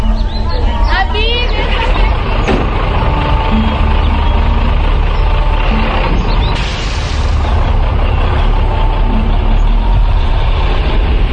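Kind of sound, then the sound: vehicle, truck engine driving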